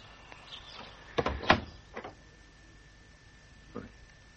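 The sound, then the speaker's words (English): An unlocked, broken front door is pushed open, giving a cluster of sharp creaking thuds, followed by a softer knock and a faint bump a couple of seconds later. “Doesn't even bother to lock his front door now.”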